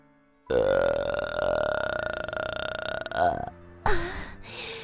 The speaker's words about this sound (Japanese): 遠慮せず私のゲップ味わってくださいな。